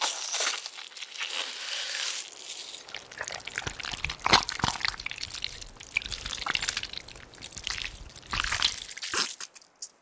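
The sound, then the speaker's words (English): Wet squelching of a kidney being cut out of a creature taken from the ocean, with sticky, crinkling squishes and small drippy bursts coming in irregular spurts for several seconds, with no one talking. “Just give me a second to get the kidney out.”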